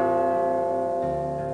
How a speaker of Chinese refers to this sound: 是海关大楼钟声落在情人墙